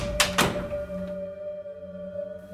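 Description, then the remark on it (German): A door is unlocked and opened: two quick metallic clunks in succession, followed by a steady low hum with no voices. “Öffne mir die Tür und du kannst sie haben.”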